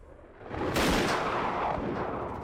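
gunshot

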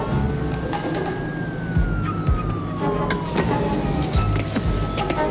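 fire engine siren

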